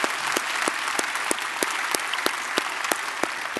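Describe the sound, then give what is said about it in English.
A church audience applauds steadily to welcome each other, a dense wash of many hands clapping with sharper periodic claps punctuating it about three times per second. No one speaks over it. “In fact, we don't do this every week, but I would like you just to welcome each other by applause and just let's just let each other know that we are one church in many locations and just welcome everybody.”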